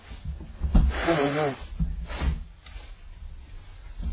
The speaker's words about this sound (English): Apologize for all my sniffling.